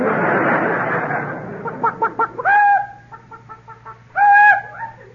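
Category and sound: vocal imitation, imitated chicken clucking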